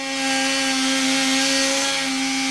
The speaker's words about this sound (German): Er braucht sogar eine Säge.